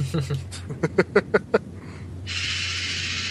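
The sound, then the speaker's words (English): A pet bird lets out a quick run of about six harsh, honking squawks, then falls silent as a steady hiss and low hum take over. “That's my bird's closing remark, I guess.”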